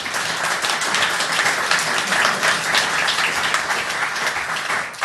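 Sustained applause from a crowd, a dense, steady wash of many hands clapping at once, loud and close, holding evenly for several seconds without pause.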